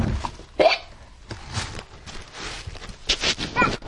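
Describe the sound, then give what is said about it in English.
A baby hiccups several times at irregular intervals, each one a short, sharp little burst, against a quiet background with soft rustling. “You poor thing. You have the hiccups.”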